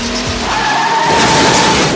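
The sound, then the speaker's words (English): A car's tires squeal loudly as it accelerates in reverse and hits another car's driver's side door, a sustained high screech over rough engine and road noise lasting about two seconds. “She grits her teeth and backs up.”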